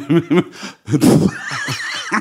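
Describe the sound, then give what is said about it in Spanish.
Someone mimics a dolphin with their voice: a few squeaky, bouncing chirps, a raspy burst, then a high, wavering whistle that rises and falls before a final short squeak. “Bueno, los delfines utilizan sonidos únicos para identificarse entre sí.”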